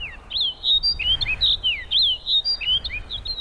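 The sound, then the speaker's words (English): A snow bunting sings a quick, continuous run of bright, clear twittering and warbling notes over a low background rumble like wind. “This means male snow buntings may face freezing conditions and snow blanketing the ground.”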